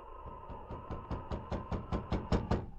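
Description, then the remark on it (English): Early in the morning, a man knocks around ten times on a cabin door in a steady, even rhythm, each knock a little louder than the last, over a faint constant hum with no voices. “When there was no reply to his knock on the door, he lifted the latch.”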